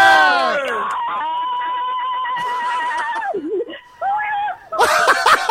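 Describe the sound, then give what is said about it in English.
A woman at home on a phone call lets out a loud, high-pitched excited scream after being told she has won a holiday, holding one long sustained shriek for a couple of seconds, then following with a few shorter wavering squeals and a final burst. “Wow, that is the greatest scream I have ever heard.”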